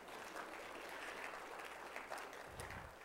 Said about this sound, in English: You don't have to clap for yourselves. It wasn't that good.